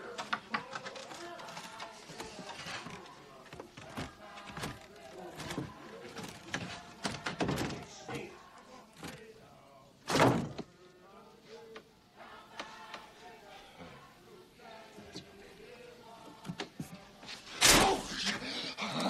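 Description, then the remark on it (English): A door shuts with a solid thunk, then another heavy slam follows several seconds later, both loud against a busy background of murmuring voices and faint clatter. “Just leaving, you know, your door was open. Just wanted to close it, didn't want no one breaking in.”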